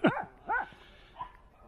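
stray dogs barking

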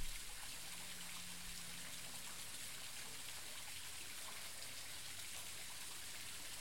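falling water

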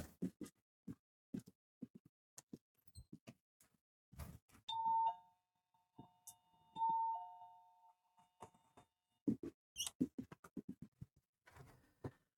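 doorbell chime ringing

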